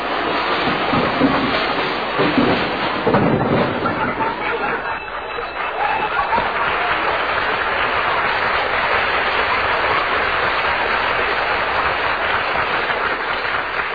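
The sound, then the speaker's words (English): A long, loud avalanche of clattering and banging as the contents of Fibber McGee's closet crash out when he opens the closet door, a radio sound effect: a dense rattling cascade of tumbling objects that keeps going for many seconds without letting up. “When Fibber runs to open that closet door. Look out!”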